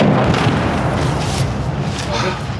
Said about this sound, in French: All right, well, you can hear the incoming rounds from Russian artillery fire are really intensive here.